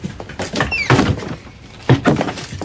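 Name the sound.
door slamming shut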